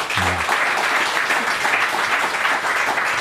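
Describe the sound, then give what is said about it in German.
Steady audience applause, a dense wash of many hands clapping at an even, loud level throughout, with a brief low voice murmur near the start, as fans applaud when the coach of the Blue Devils speaks. “Merkst du das, sobald der Trainer was sagt, gibt es Beifall.”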